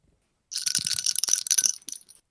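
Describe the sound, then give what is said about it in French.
A small bell shaken rapidly as a transition, giving a bright, jangling metallic clatter that lasts under two seconds and then stops, with no voices. “C'est toutes tes transitions, tu vas les faire avec la cloche.”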